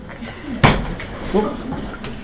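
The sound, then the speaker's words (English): A chair suddenly gives way with one loud, sharp crack and thud, followed by a brief clatter. Muffled voices murmur around it. “The chair broke.”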